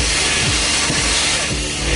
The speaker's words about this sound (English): you heard the silencer of the leaf blower